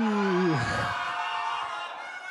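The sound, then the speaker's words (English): A large audience shouts a loud, drawn-out "boo" together on a 3, 2, 1 countdown, a dense roar of many voices that swells at once and then trails off over a couple of seconds. “I've never been screamed at like that by so many people.”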